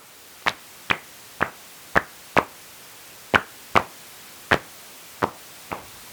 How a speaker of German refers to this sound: Also ich höre die Abendsegler nicht mehr und muss dann so ein Gerät zur Hilfe nehmen.